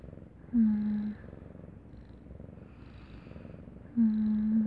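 cat purring

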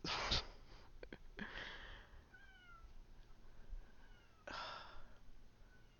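cat meowing

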